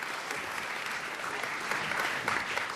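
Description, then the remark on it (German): An audience applauds Henrik, who set up the WLAN, steadily: a dense wash of many hands clapping at an even, moderate loudness that swells slightly toward the end. “Und wer ein Applaus für Henrik, auch wenn wir ihn viel bashen, er macht sehr viel WLAN.”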